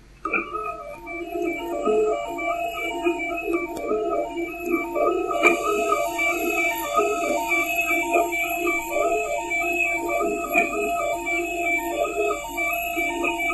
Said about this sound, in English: It's the sound of a 3D printer head moving.